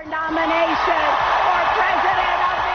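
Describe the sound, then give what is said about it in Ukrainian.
The audience at the Democratic National Convention in Philadelphia applauds steadily as Hillary Clinton accepts the nomination for US president. The dense wash of clapping stays loud throughout while her voice speaks over it. “Під оплески аудиторії заявила Клінтон.”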